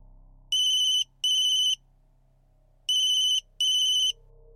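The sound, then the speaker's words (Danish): A mobile phone ringtone trills in two paired bursts of bright electronic warbling, separated by a short pause, over a faint low hum, with no one speaking, as an 8-year-old daughter tries to call her mother. “For i sin første pause ser hun på sin telefon, at Monika har haft ringet.”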